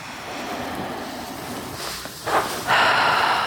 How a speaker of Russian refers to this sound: Сделаем несколько глубоких вдохов.